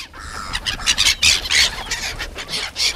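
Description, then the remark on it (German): Several gulls squawk and shriek in rapid, overlapping bursts, squabbling over a piece of bread on the Limmat river in Zurich, their harsh calls rising and falling without pause over a faint background hum. “Im Schaufenster der Kleiderboutique Hannes B., direkt an der Limmat, spiegeln sich Möwen, die um ein Stück Brot balgen.”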